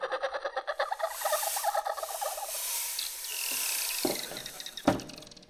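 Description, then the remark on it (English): Rapid bursts of clicks and chattering pulses from dolphins accompanying a vessel at sea, followed by thin rising whistles, moderately loud, with a couple of sharp knocks near the end and no voices. “These dolphins continue to accompany us?”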